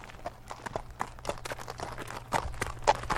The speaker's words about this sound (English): load saddles and horses into the trailer. They'll be riding through some rough country, gathering up cows and loading them onto trucks to send them home.